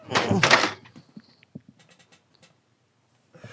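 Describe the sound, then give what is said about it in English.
A person falls with a loud, heavy crashing thud, followed by several scattered knocks and light clattering that fade into near silence. “No, could you rewind and repeat what you just said before I fell?”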